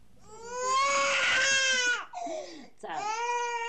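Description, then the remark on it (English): A toddler wails loudly in long, high-pitched sustained cries, breaking briefly into a gasping sob before starting up again, as its mother tries to calm it in a kitchen in the Palestinian village of Asira al-Qibaliya in the northern West Bank, while three older children eat lunch on the floor. “tries to calm her crying toddler as her three older children eat lunch sitting on the floor of the kitchen.”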